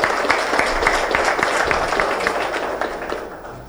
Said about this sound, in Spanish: Por eso, un aplauso para aquellos que están en la reserva.